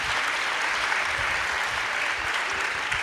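Audience applause fills the whole stretch, a dense, steady wash of many hands clapping at an even, fairly loud level without pauses and with no voices standing out.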